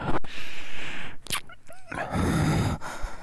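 A puppy whimpers and lets out a few sharp yips, with thin rising whines breaking through a steady, noisy background.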